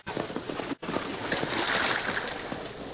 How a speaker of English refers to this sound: There, he met a new and even greater hazard. The creek was at flood state.